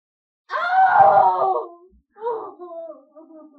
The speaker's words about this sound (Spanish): Escucho los sollozos de Hécuba y cómo la pobre Andrómaca expresa su dolor en gritos lacerantes.